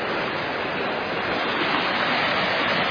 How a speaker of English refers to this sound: Rushing through roaring water. There'll be a lot of ice on here in just a few days.